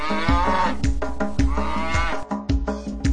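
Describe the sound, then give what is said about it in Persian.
Cute cows sing 'moo moo moo' for the number eight in a counting song, mooing several times in a rhythmic sequence over upbeat music, the drawn-out lowing calls loud, repeating in step with the beat. “هشت و گاوه نازنازی مو مو مو میخونن.”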